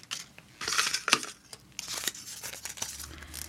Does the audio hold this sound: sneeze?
no